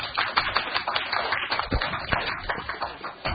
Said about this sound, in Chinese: 咁喺度咧，即系我哋都表示谢意，即系俾啲掌声佢好嘛。